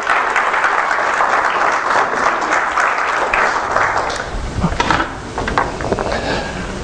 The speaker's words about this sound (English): All right, Cove Baptist Church, let's welcome all those who will be watching by internet today with a wonderful hand of applause.